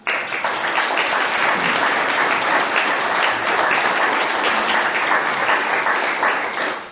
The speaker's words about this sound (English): I'm looking forward to the talk, as I'm sure are you. Show it, please, in your applause.